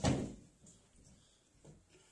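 A window slides shut with a loud thud that rings briefly, followed by a few quieter knocks and rattles as someone standing on a chair works the latch to lock it.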